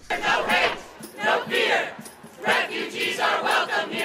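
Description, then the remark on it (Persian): A crowd protesting President Trump's executive order barring entry to citizens of seven countries shouts slogans at the gates of the White House in loud, rhythmic bursts, three main surges of massed voices rising and falling over about four seconds. “فریاد های مردم امرا با شعار های مختلفی که هم می کردن، همه یک پیام را به امرا داشت.”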